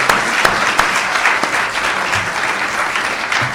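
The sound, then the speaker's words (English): A church audience claps steadily for several seconds for the Sunday school children and helpers after a Christmas program, a dense, even wash of applause from a large group, with no one speaking. “Well, let's give them another round of applause anyway.”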